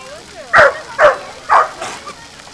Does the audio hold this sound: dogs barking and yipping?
yes